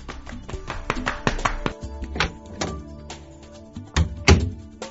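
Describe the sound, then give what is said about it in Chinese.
A door being opened, a busy run of clunks, taps and rattles, with a ringing tone underneath and a couple of heavier thumps near the end; no one speaks. “我去开门。”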